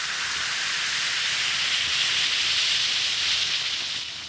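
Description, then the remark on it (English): Steady, bright fizzing hiss of one or two Alka-Seltzer tablets dissolving in a glass of water, continuous for several seconds, fading slightly at the end with no voices. “Drop a tablet or two in a glass of water like this. Listen to it fizz.”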